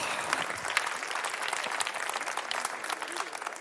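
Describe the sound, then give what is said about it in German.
Steady audience applause, a dense crackle of many hands clapping at an even level throughout, with no single claps standing out. “Applaus!”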